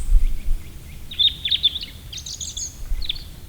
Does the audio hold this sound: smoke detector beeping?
no